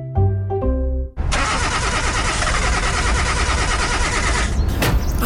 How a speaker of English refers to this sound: The car's not starting.